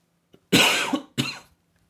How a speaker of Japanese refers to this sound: ごめんなさいね。咳なんかしちゃいました。